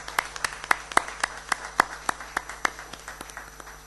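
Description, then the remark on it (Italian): Brief, sparse applause at a provincial council session for the elected councillors after a unanimous vote validating all 10: a small group claps in a steady, fairly quick rhythm, the sharp claps standing out clearly against a quiet background hum, with no talking. “All'unanimità procederei ad un applauso per i consiglieri eletti.”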